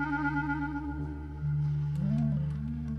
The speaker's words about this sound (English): In the background, we're listening to David making music with whales. That's the subject of a previous book, Thousand Mile Song.